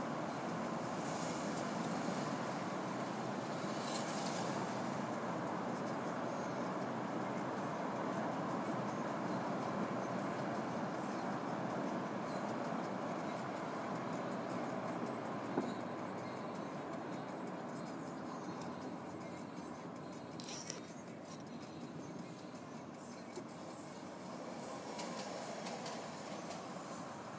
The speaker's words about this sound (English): Presumably that was a tram on the left, was it? That I heard. Oh. Just wondered, was it a tram on the left that I heard a moment ago?